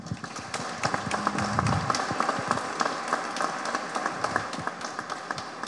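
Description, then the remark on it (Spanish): A crowd applauds steadily for several seconds for the Instituto Nacional de Colonización, a dense, even wash of many hands clapping with sharper individual claps popping out, and a brief low voice sound early on. “Un gran aplauso para el Instituto Nacional de Colonización.”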